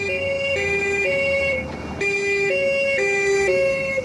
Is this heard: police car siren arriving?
yes